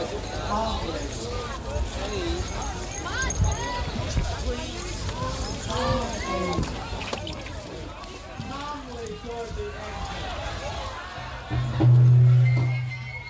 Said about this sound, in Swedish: Men snart står det klart att det här är någonting helt annat. Så här lät ljudupptagningen från tumultet som utbröt.